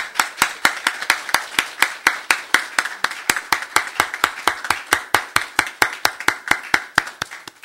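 An audience claps hands together in a brisk, steady rhythm, about three to four sharp claps per second, loud and even for the whole stretch with no talking over it, giving thanks to the Lord to begin a church worship service.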